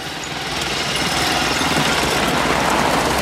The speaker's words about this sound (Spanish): Los dos militares se alejan sobre dos motos.